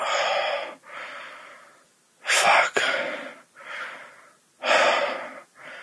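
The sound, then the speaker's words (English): Heavy panting breaths, loud, in a steady rhythm of about six harsh, airy inhales and exhales over several seconds with brief pauses between them and no talking. “And you can feel my panting body resting on yours.”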